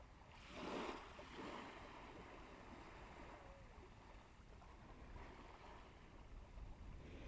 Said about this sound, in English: I think the sound of waves is so therapeutic. That's a good word, therapeutic.